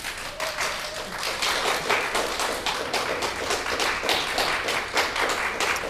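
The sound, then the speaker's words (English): Sustained applause from an audience after the choir Nota Bene sang live in the foyer of RNZ House, a steady dense patter of many hands clapping, holding even in volume throughout. “And that applause is really hard earned.”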